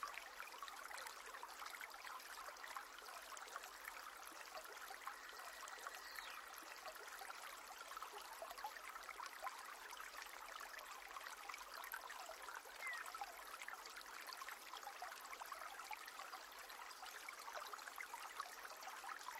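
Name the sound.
flowing stream water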